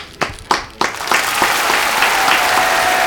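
Applause from an audience starts with a few scattered claps, then quickly swells into steady, dense clapping that continues at an even level to the end.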